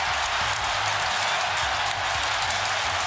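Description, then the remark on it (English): A baseball stadium crowd in Tokyo cheers Shohei Ohtani's home run during the Dodgers-Cubs game, a loud, unbroken roar that holds steady for about three seconds, a dense wash of voices and clapping with no clear speech on top. “Call on Fox Sports 1 and listen to that crowd.”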